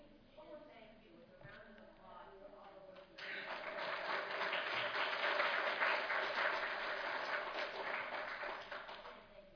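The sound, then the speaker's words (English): A few seconds of voices give way to a sudden burst of audience applause, a dense, steady clatter of many hands that holds for about six seconds before easing slightly. “I mean, I thank you for the applause, but I just feel like it's this collaboration.”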